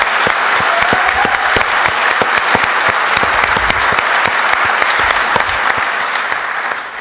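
An audience applauds steadily, a dense wash of many hands clapping at once, loud and sustained for several seconds before starting to taper off at the end.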